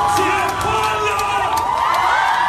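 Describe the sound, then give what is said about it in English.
A crowd of hundreds of people holding rainbow flags in Taipei, Taiwan, cheers and whoops continuously after the Supreme Court struck down a ban on same-sex marriage, a dense wash of raised voices and high shouts at steady loudness. “Hundreds of people, rainbow flags in hand, cheering, hugging each other after Taiwan's Supreme Court struck down a ban on same-sex marriage as unconstitutional.”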